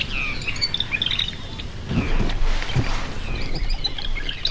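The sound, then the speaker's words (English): A common yellowthroat sings in repeated bright chirping phrases over a marshy outdoor background, with a few deep grunting calls breaking in near the middle. “Pretty sure that's a yellow throat.”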